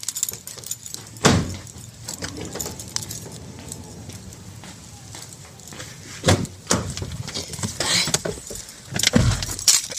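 An old female dog is lifted into a car, putting in her two front paws while a person lifts her rear: rustling, a few solid bumps against the car, and bursts of metallic jangling from collar tags, with no one talking.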